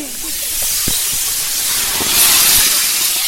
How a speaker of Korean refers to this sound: 트럭 가득 실어온 수소가스가 길다란 비닐풍선에 팡팡하게 채워집니다.